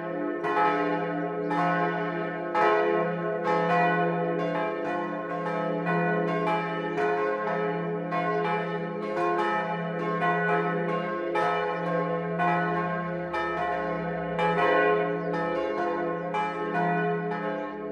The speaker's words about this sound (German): Es ist 12 Uhr. Das Mittagsläuten kommt heute von der Wallfahrtskirche Heiligste Dreifaltigkeit am Dreifaltigkeitsberg bei Rimbach in Niederbayern.